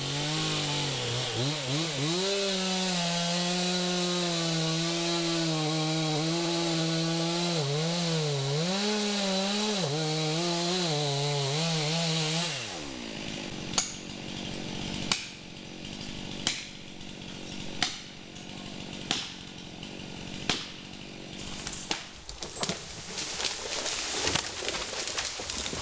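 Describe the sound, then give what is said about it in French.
A chainsaw runs loudly, its engine pitch rising and falling as it bites into wood, then cuts off halfway through, leaving scattered sharp cracks and knocks against a quieter outdoor background. “je retourne voir Benoît, parce que la tronçonneuse, elle tourne”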